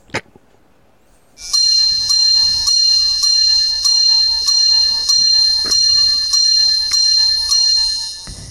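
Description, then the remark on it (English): The AMC movie theater's Divorce Bells, heralding the arrival of the Myrtle Beach Bowl, Marshall versus UConn: bright metallic bells ring continuously in rapid, evenly spaced loud strikes, with a shimmering high sustain that pulses roughly every half second after a brief quiet start. “Folks, even heartbreak feels better here, and that is the AMC movie theater's Divorce Bells heralding the arrival of the Myrtle Beach Bowl, Marshall versus UConn.”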